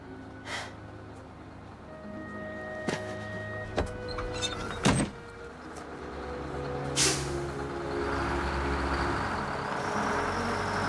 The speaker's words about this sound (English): Eddie's car races down the highway.